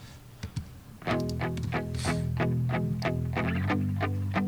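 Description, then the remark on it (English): An electric guitar strums steady, evenly spaced chords, each stroke ringing out with a wet, splashy spring reverb that drips and smears between hits. It is fairly loud, with no voices. “It's a spring reverb. You can hear the drip.”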